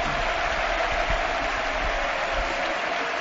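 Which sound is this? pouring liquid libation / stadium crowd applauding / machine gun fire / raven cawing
stadium crowd applauding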